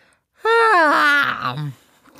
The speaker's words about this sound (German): Darum hab ich so weiße Zähne. Die siehst du, wenn ich laut gähne.